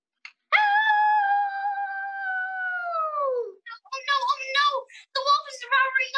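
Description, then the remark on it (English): A single long wolf howl holds a steady high pitch for about three seconds, then slides downward and fades, followed by a voice talking in short bursts. “Followed by a long howl from the wolf.”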